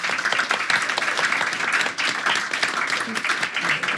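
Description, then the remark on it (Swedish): Sustained applause from an audience for the guests at an event, a dense wash of many hands clapping at a steady, fairly loud level throughout, with no clear gaps between claps. “En applåd för våra gäster.”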